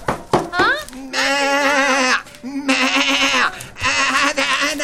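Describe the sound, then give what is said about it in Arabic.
Three long, quavering sheep bleats follow a few short sounds, each a steady mid-pitched baa with a wobbling tremble, loud and separated by brief pauses. “نعم ما أنا الخروف.”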